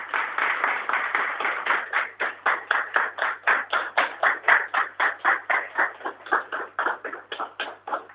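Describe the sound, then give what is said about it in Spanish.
Applause as a plaque is unveiled at the LU4 radio station, in a steady, rhythmic beat, roughly three sharp claps per second, staying loud and even for about eight seconds with no voices over it. “Yo pido que la acompañemos con un aplauso.”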